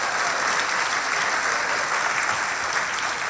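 An audience applauds steadily for the mothers present, dense clapping at an even, fairly loud level for a few seconds, with no speech over it.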